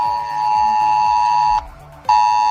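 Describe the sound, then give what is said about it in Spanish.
A loud, steady emergency alert tone blares from a phone, a harsh buzzing pitch with harmonics, cutting out for half a second before resuming just as loud, with no one speaking; a red alert warning of AEMET's maximum alert from 9 o'clock, heavy rain, and suspended school, sports and day-centre activity. “avisando de la máxima alerta de la EMET que entra en vigor a partir de las 9.”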